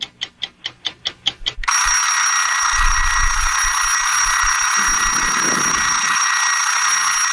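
A loud bell rings on and on without pause, like an old alarm clock, right after a quick run of evenly spaced clangs. No voices are heard.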